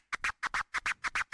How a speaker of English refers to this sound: Well, let me use the so-called chirp scratch as an example. So that's exactly this.